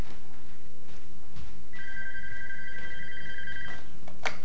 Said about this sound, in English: Uh-oh, book boy, the phone's ringing.